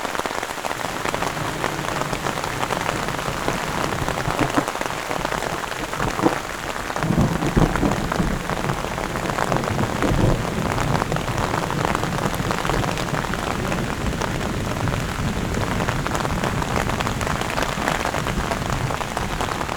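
Heavy rain from a mountain thunderstorm, with storm clouds covering the high peaks, pours down steadily in a dense, hissing wash, loud throughout, with drops pattering on surfaces and no voices.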